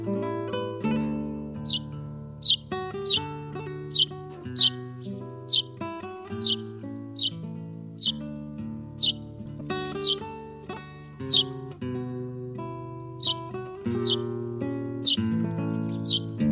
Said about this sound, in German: Das war der Haussperling.